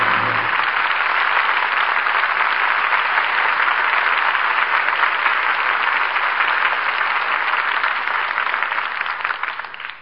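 studio audience applause

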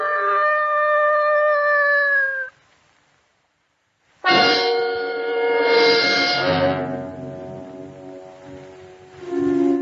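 dog howling

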